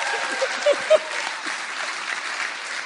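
Steady audience applause fills the room, dense clapping from many hands at a fairly close, even level, with a few brief voices or whoops rising above it early on.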